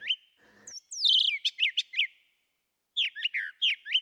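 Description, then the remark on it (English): A brown thrasher sings two bursts of rich, varied chirping phrases separated by a short pause, clear, with no other sounds or voices. “On the East Coast, the brown thrashers are around in kind of scrubby field types of areas.”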